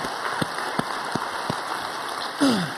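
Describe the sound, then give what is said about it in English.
A crowd applauds in praise to Jesus in a steady, crackling wash of clapping, with a few sharper individual claps standing out and a short falling tone sliding down near the end. “So now we can say praise to Jesus. So let's clap.”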